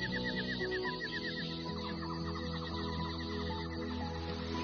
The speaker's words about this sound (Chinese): 哇，鸟叫，你看， 你到早上的时候，很多白鹭， 白鹭 群的。